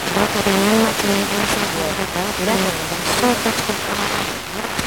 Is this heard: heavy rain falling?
yes